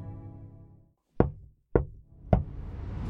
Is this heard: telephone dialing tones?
no